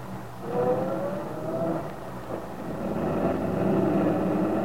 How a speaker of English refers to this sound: Sergeant Bill Meade watched Aunt Mary's truck drive off.